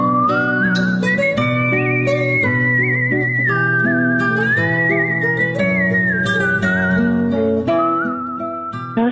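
A clear, loud whistled melody glides through sustained notes and gentle pitch bends, carried over a steady instrumental accompaniment with no talking.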